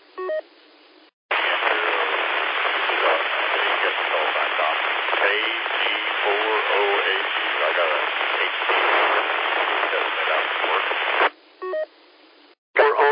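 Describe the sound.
A weak amateur radio transmission in the morning, a faint voice barely emerging from loud, steady static for about ten seconds, bracketed by short electronic tone bursts at the start and end.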